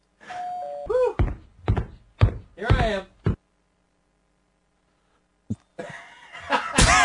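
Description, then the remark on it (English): A doorbell gives a short two-note chime, followed by bursts of voices that sound like laughter or coughs, a pause of silence, then rustling noise. “Well, your sound effects don't work, but the funny? Doorbell still does.”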